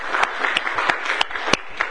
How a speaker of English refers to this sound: And let me just say, and yes, you can clap the Lord for that, clap praise to Him, but go ahead. Yeah, that's all right. Praise God.